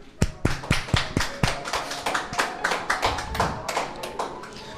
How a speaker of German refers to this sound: Ein Applaus bitte.